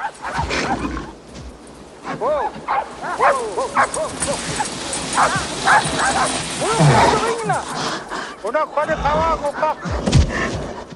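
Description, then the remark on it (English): A pack of sled dogs pulling a group of Eskimos on dog sleds barks and yips excitedly, many overlapping high-pitched calls and whines filling the whole stretch, loud, over a rough rushing background noise. “A group of Eskimos ride their dog sleds.”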